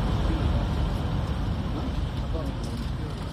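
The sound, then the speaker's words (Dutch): A convoy of white Toyota Land Cruisers crosses the Iraqi border into Syria on 5 June, heading for a Kurdish compound in northeast Syria: a steady, loud engine and road rumble that stays even throughout, with a faint murmur of voices in the background. “Het is 5 juni en er rijdt een stoet witte Toyota Land Cruisers de Iraakse grens met Syrië over.”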